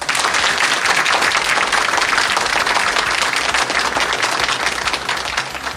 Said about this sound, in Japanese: すごい拍手いただきました。何百人集まってるんだろうっていう ね、雰囲気になってますけれども